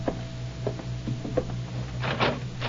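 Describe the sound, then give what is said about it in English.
A door is pushed shut with a few short wooden knocks and clicks, ending in a louder thud and rattle, all over a steady low mechanical hum. “Now shut the door.”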